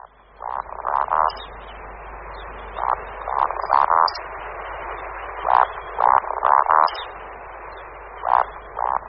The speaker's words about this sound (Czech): Právě jsme se zaposlouchali do hlasových projevů jednoho z našich nejtajemnějších ptáků, sluky lesní. Slyšeli jsme tok slučích samečků, který se skládá z hlubokého kvorkání a vysokého pískání.